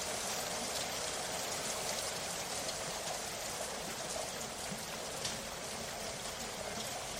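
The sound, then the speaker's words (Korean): Steady rain falls in a dense, unbroken hiss of countless drops, holding an even loudness throughout with no voices and no pauses. “여기서 이렇게 비를 피하고 있으니 좋네요.”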